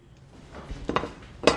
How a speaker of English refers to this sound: All right, so here we are. Big cast iron frying pan.